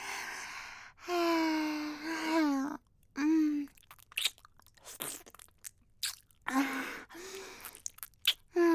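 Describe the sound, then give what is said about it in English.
Crunchy chewing and swallowing of food with scattered wet smacks and clicks, broken up by several drawn-out, contented humming moans from the eater. “Swallowed it all.”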